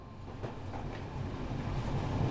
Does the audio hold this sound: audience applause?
no